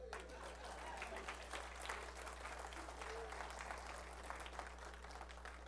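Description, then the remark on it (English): An audience applauds a band with dense, steady clapping that fills the whole stretch at an even level, with no voices rising above it and a low hum underneath. “This band, clap.”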